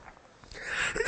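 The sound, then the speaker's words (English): A rising, breathy inhale swells over about half a second, then a single loud cough bursts out at the very end from someone who has had a cough for a week. No one speaks. “Excuse me. I've had this cough for a week.”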